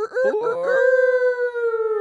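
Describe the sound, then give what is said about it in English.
A person imitates a rooster crow: a few quick, choppy voiced syllables, then one long, loud, sustained note that holds steady and fades slightly at the end. “Should I crow today?”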